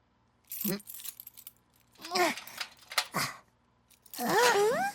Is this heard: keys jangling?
yes